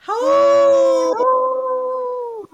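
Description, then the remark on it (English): A wolf howls in a long, loud, sustained cry that holds a steady pitch, breaks briefly, then carries on in a slightly lower tone before fading out, with no talking. “All right, we got our three howls here.”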